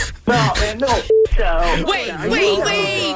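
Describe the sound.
A single short telephone beep, marking an incoming phone call, sounds clearly in a brief gap between stretches of lively, overlapping talk, steady in pitch and about as loud as the voices.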